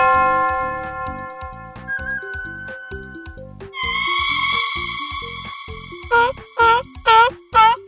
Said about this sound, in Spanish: ¿Cuáles sonidos acabamos de escuchar? ¡Wow! ¡Bien hecho! Escuchamos una campana, una flauta, un fantasma y una foca.